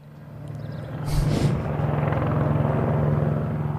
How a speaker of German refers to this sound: Was hören wir da? Wir hören einen Hubschrauber. Ja. Und den hören wir in Österreich ungefähr über 36.000 Mal im Jahr. Das sind heruntergebrochen 100 Einsätze am Tag und 12 davon fallen aufgrund von Einsätzen im alpinen Gelände an.